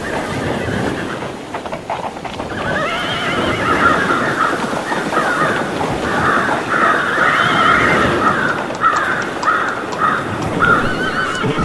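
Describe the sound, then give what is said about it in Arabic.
A horse neighs and whinnies loudly and repeatedly over a busy background of hooves clopping and scuffling, with no one talking, as its rider urges it to move and swim at the Red Sea shore. “هيا تحرك أيها الحصان، أنت تستطيع السباحة، صدقني بسرعة.”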